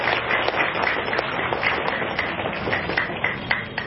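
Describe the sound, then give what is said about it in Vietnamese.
A crowd at a Buddhist temple gathering applauds in praise of donors' merit, a steady, dense wash of overlapping claps that holds at an even loudness for the full four seconds, with no voices. “Xin quý vị hãy dành một tràng vỗ tay thật lớn để tán dương công đức.”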